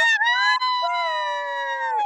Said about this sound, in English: Sorry, I interrupted. I'm so sorry for the screaming.